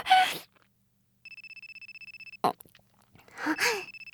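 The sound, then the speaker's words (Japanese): A telephone rings with a steady, rapid electronic trill lasting about a second, clear, bracketed by sharp breathy gasps before and after. “電話かかってきちゃった。”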